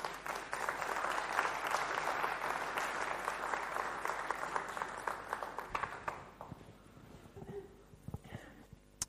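A crowd applauds with dense, steady clapping that holds strong for about six seconds, then thins out into a few scattered claps before fading.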